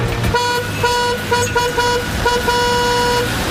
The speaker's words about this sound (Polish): Otwarcie nowej, tymczasowej przeprawy było kilka razy przekładane, ale w końcu doszło do skutku. Dziś mostem przejechały pierwsze samochody.